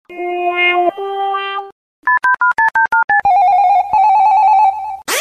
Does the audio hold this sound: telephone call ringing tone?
yes